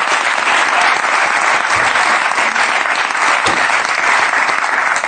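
Sustained applause from an audience, a dense, steady wash of many hands clapping at an even, loud level for the full five seconds, with no voices standing out.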